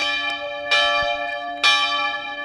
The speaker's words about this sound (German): Die Glocken der Friedhofskapelle des Mainzer Waldfriedhofs erklingen bei jeder Bestattung. So lange, bis die Urne von der Trauerhalle zum Grab getragen wurde.